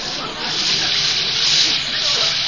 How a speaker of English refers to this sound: Well, now for a nice hot shower and then to bed. Well, let me reach behind the curtain here and turn on the water. I'll let it get good and hot.